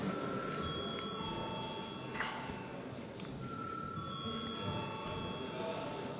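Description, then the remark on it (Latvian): A parliamentary session bell, called for just before a vote on a bill, rings steadily for about six seconds, a sustained, bright, high-pitched electric tone held without a break, with a soft murmur of voices underneath. “Lūdzu zvanu.”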